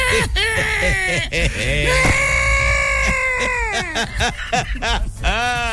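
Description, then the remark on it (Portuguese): A man imitates how he cried for milk as a baby, with loud, high, warbling wails that rise and fall in pitch, sustained for several seconds, then break into shorter sobbing bursts. “É, eu era, eu chorava pra mamar. E como é que tu chorava”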